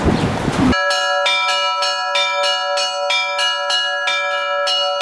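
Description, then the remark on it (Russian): Church bells from a bell tower's set of seven bells, mostly old cast bells, ring out to call believers to service in a quick, steady series of loud strikes, roughly two per second, their bright overtones ringing on between hits after a brief burst of noise at the start. “В настоящее время вот мы призываем верующих к богослужению и производству колокольни.”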